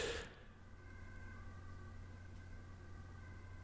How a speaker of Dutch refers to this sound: Ambulance.